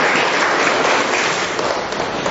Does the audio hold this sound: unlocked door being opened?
no